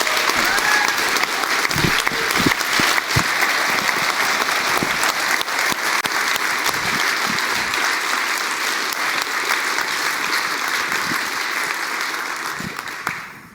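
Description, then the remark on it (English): Sustained applause from a large audience at a conference, welcoming a team member, dense and steady clapping at full strength for about thirteen seconds before quickly tapering off at the end. “That's a special applause on top of that, and very, very happy to have you in the team.”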